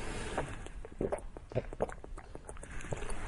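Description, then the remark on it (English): Quiet sipping and swallowing of water, with a string of soft, irregular wet clicks and small gulps over a low background hiss. No one speaks. “Let me get a drink.”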